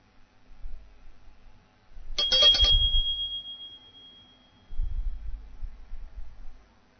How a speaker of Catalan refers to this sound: Jo tocaré la campaneta quan comenci aquests 20 segons i quan acabin aquests 20 segons.